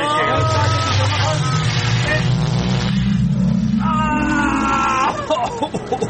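A time machine departure sound effect: a loud, steady whirring rumble climbs in pitch while warbling electronic tones sweep above it, lasting about six seconds with no voices.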